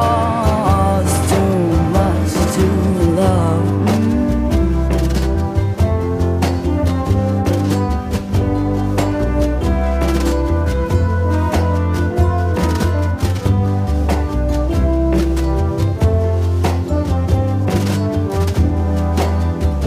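A pop rock song plays loudly and steadily, with a female singer over a thick band mix of bass, keys and sharp, regular drum hits driving a bouncy beat.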